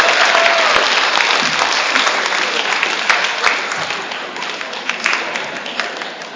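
Loud, sustained audience applause fills the whole stretch, a dense crackle of many hands clapping at once that eases off slightly toward the end.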